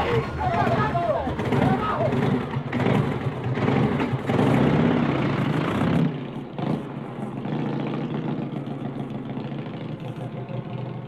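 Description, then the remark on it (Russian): A motorcycle engine revs and then drones steadily as it pulls away in a forest, fading slightly, with a jumble of rough, indistinct men's voices over it during the first half. “Вдруг мальчики услышали выстрелы, шум грубых мужских голосов и звук отъезжающего мотоцикла.”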